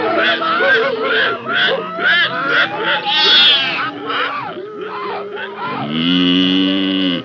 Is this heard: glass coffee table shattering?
no